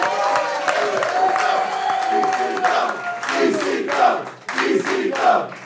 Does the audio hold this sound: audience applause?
yes